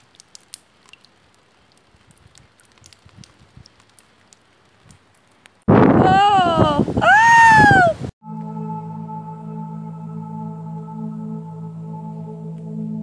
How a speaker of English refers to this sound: It's still stormy. It's still rainy. And here's the rain dripping off my roof right now.